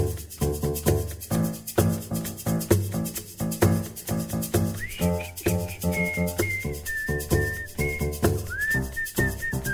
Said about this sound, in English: So was no idea like making up a new one for the intro. So we just need another sound for the intro, and that was the whistling bit.